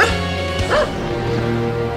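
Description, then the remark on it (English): A dog gives a short bark or two, loud, over a steady tonal background that sounds like music. “Defying all expectations. This dog was a winner.”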